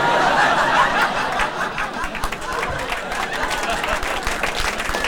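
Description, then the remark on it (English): An audience applauds steadily for about five seconds, a dense, loud wash of many hands clapping together, with a few scattered laughs mixed into the noise. “I agree with your applause.”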